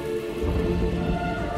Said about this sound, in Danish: Men med det her soundtrack. Og med lidt torden og silende regn.